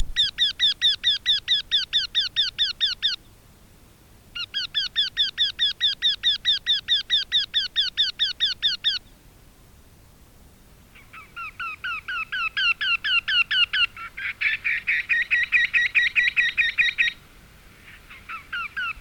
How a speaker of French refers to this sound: Loin dans les bois, un oiseau appela. Un autre lui répondit.